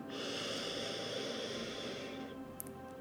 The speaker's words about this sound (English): Breathing in deeply. Exhaling, breathing in deeply,